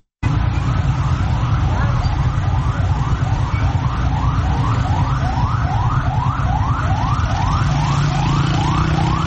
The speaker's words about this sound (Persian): این صدایی بود که امروز در محدوده مرکزی شهر تهران ساعت‌های متمادی شنیده می‌شد. صدای آژیر اتومبیل‌های آتش نشانی و آمبولانس‌هایی که از اولین ساعت روز تلاششان را برای اطفای حریق ساختمان پلاسکو، اولین ساختمان بلند مرتبه تهران، آغاز کردند.